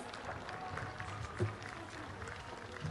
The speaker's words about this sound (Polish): Witamy serdecznie grupę 12. Witamy serdecznie, gorące oklaski.